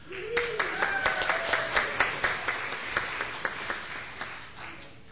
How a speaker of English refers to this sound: The applause didn't last long enough.